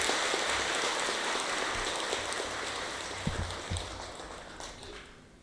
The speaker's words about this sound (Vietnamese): thầy kính gửi lời chúc mừng năm mới dương lịch 2021 đến tất cả cộng đồng Phật tử trên toàn cầu và đặc biệt là các Phật tử tham dự khóa tu ngày hôm nay, cho một tràng pháo tay thật lớn để chúc mừng.